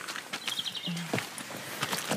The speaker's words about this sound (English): We're walking through here into Dr. Lamb's orchard and we can hear all the birds.